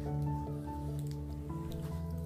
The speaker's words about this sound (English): So it just was a situation where, if you hear me eating, I apologize. I know some people are funny about that, but I'm eating gummies, so sorry.